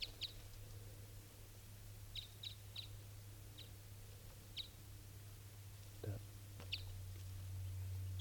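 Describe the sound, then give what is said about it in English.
A female bird, one of a mated pair, calls in short, high, faint chirps repeated at irregular intervals over a steady low hum, while one person briefly speaks a single word midway. “This is her calling.”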